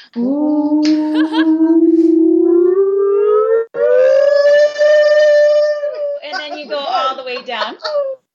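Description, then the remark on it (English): A voice imitates a tsunami siren while winding an arm horizontally like cranking a toy, a loud sustained wail climbing slowly from low to high pitch, holding a steady high tone, then breaking into wavering, warbling sounds at the end. “And so the tsunami siren activity is you're kind of winding your arm like you crank a toy horizontally. So you start low.”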